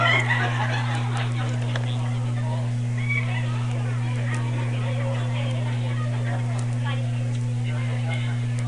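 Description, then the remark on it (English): A flock of turkeys gobbling in a dense, continuous jumble of rapid calls that runs the whole time at moderate volume, over a steady low electrical hum. “You know, it's the turkeys that shove out their necks and go, you know.”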